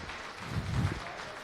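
Audience applause for a speaker introduced to talk about expanding GGML hardware support with the Vulkan API: a steady, dense wash of many hands clapping at once, fairly soft, swelling slightly in the middle and holding on without any voices over it.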